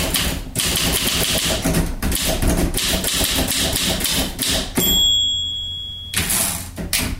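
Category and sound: household object, typewriter keys clacking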